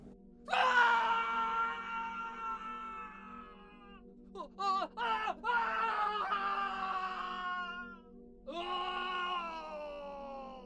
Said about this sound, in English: That was what I was thinking at the time, before the screaming started again.